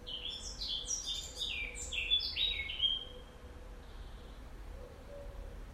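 A European robin, having come closer, sings a quick series of high, thin warbling phrases for a few seconds, then falls silent, leaving a steady low background hiss.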